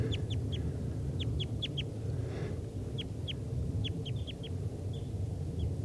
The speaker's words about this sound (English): There's two wild type 2 crossbills here in the trees near the net. This is them calling.